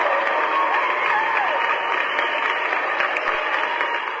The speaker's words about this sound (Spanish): Hombre, no tienes nada que agradecer, le mandamos un aplauso a nuestro amigo Zorro.